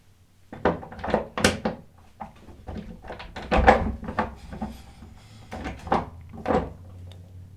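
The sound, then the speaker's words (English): A door being shut, with a series of wooden thumps and knocks spread over several seconds, some louder than others, and a low hum underneath. No one speaks. “Princess or not, if he didn't come careening in here like a madwoman, I would have had a chance to keep the door open.”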